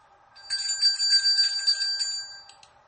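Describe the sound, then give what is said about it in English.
A handbell shaken rapidly outdoors, heard from some distance outside a kitchen window, producing a bright, continuous jangling ring that lasts about two seconds before trailing off into a few last faint strikes. No voices are heard. “Was that a handbell?”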